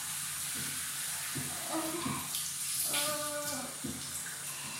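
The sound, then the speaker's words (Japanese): Steady hiss of shower water spraying continuously for the full few seconds as the shower spray is applied to the genitals, with some faint tonal sounds briefly rising over the spray near the middle. “じゃあ、今おまんこにシャワーを当てます。”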